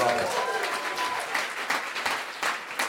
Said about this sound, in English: Well, first I will ask you another like amazing applause for this incredible.